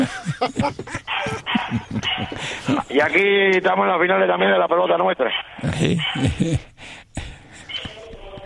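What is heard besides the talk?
dog barking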